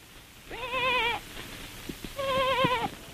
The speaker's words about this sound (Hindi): एहर केकर आवाज हो ही भेड़िया पीला का नरियाना जान पड़त है। जहाँ ले नरियाना की आवाज आत रही हुई डहर ओहर चले लागिस। खड्डमा जाकर ओहर देखिस कि पीला हर झाड़ी मा फंसे पड़े है।